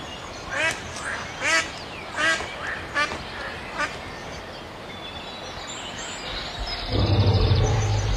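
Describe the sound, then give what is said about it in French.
Short, nasal, quacking bird calls repeat five or six times at irregular intervals over a steady hush of background noise in a quiet city centre; the hush grows slightly louder and rougher near the end. “On n'entend rien. Que les oiseaux et la faune sauvage qui revient.”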